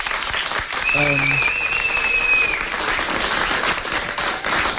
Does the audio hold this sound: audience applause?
yes